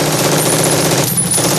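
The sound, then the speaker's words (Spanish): Dense, rapid gunfire rattles without pause in a film battle scene, a loud barrage of overlapping automatic shots fired with live ammunition from real weapons, with the volume staying high throughout and no voices. “Los efectos de sonido de las armas son disparos con munición real, hechos con armas auténticas.”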